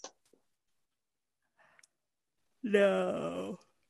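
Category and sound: human body sound, big yawn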